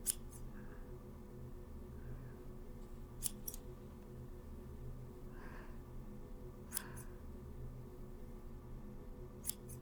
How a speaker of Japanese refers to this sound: 大丈夫、私も自分の髪よく切ってるし、毛先しか切らないから安心して。こっち側からチョキチョキして整えていくね。